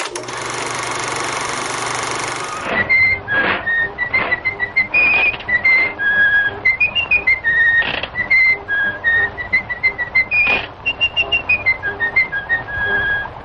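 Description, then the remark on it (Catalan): A bright, chirpy whistled melody from the 1928 animated cartoon Steamboat Willie, Mickey Mouse's debut, bounces along in short notes, punctuated by sharp mechanical clacks, after an opening burst of dense rattling noise; no one speaks. “Això que estem sentint és Steamboat Willie, o sigui, el vaixell de vapor Willie, el que es considera el debut de Mickey Mouse, que avui fa aquests 90 anys.”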